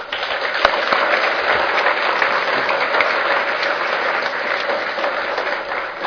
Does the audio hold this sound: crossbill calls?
no